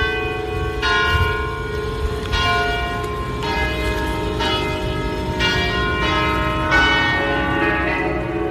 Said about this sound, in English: And I'm going to send you some sounds from Venice, including these bells.